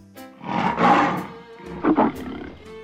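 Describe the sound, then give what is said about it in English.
A lion roars twice: a long, rumbling roar first, then a shorter, sharper one a moment later, with no talking. “They saw the lions.”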